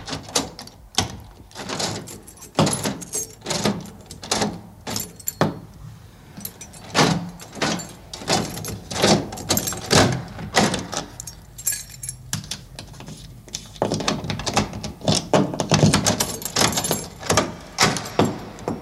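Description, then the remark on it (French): A key turns again and again in a door lock to lock the door fully, metallic clicks and jangles repeating in uneven bursts, with the rattle of the key ring between turns and no talking. “Mais combien vous avez fait de tours? Pour fermer la porte complètement, il faut faire avant, 3, et puis 6.”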